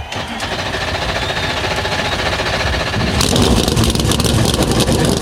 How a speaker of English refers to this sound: NASCAR Cup Series cars come to life on the pit lane, and soon they'll be out on the high banks of Homestead, Miami.